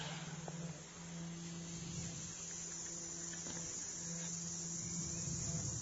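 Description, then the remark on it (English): A steady, dense chorus of grasshoppers chirping, a continuous high shimmering buzz with no pauses, fairly quiet, over a faint low hum and no voices. “Become aware of the concert of the grasshoppers.”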